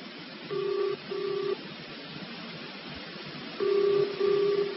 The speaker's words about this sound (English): I'd better let it ring a bit longer. There's bound to be somebody there. I'm phoning the army. Come on, answer the blooming phone.